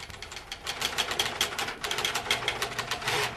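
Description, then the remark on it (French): Typewriters and teleprinters clatter steadily in a dense, rapid stream of sharp mechanical clicks and taps, bright and fairly loud, with no voices present throughout. “Même le grattement de la plume d'oie du scribe a fait place au cliquetis des machines à écrire et au crépitement des téléscripteurs.”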